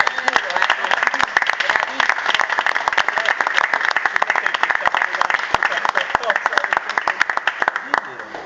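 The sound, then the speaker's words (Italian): An audience at an inauguration in Varga applauds steadily for several seconds, a dense, even patter of many hands clapping at once that stays loud from start to finish, with a faint murmur of voices underneath. “Date un applauso.”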